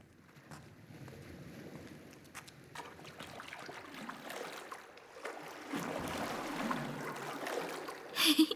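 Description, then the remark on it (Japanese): Water sloshes and splashes as someone wades, still in their clothes, through shallow sea water. The swishing grows fuller and busier midway, with a couple of sharper splashes near the end. “大丈夫、ここの海浅いし、それに服のまま入っても乾くからね。”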